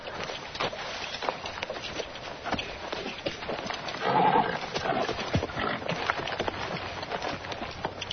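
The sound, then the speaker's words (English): A horse whinnies near the middle while hooves clop steadily and unevenly throughout, at moderate loudness, over a rustling outdoor background with no talking. “That horse ain't for sale, Doc.”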